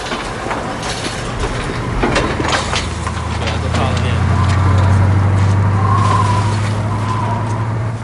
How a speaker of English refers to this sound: The LeeTech facility, nighttime. A guard waves the truck in.